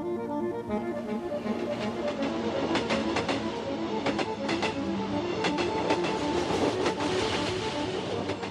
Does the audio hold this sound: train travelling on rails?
yes